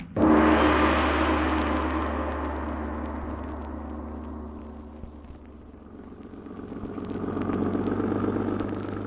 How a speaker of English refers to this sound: Listen. A car.